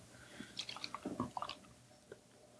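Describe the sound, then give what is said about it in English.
A double IPA from Fieldwork, Oakland, California (Simcado, Simcoe and El Dorado hops, 8.2%) poured into a glass: a quick run of soft, wet glugs and splashes lasting about a second, quiet, with no voices. “I know Mikey's a fan of double IPAs, so I'll give him second pour.”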